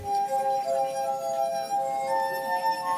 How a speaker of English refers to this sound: This is also why running your finger around the rim of a glass at just the right speed will produce sound.